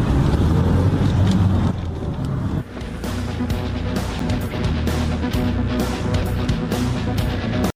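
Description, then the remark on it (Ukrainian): A taxi carrying hitchhikers drives along the highway toward Korostyshiv, Ukraine, its engine humming and tires rumbling in a loud, steady drone that dips briefly after a few seconds, then carries on without pause. “Спочатку ми думали, що не зможемо домовитись про безкоштовний проїзд, але нам пощастило, і от ми вже в дорозі.”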